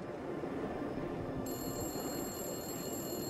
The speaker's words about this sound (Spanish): Luego, a la 1:15 de la mañana, el teléfono público comenzó a sonar. Como habían sospechado los investigadores, uno de los secuestradores volvió a llamar ansioso por obtener el rescate.